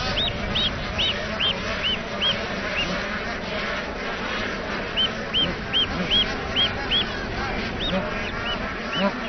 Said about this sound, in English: The geese nest together for safety, but so many chicks hatching at the same time means that it can be tricky finding your parents.